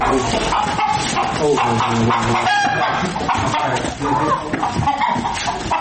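Chickens cluck busily and continuously while a rooster crows among them, filling a loud, crowded barnyard scene with overlapping bird calls.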